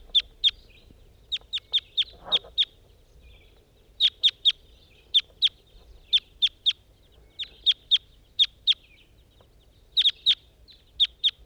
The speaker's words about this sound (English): start recording two wild birds up in a tree.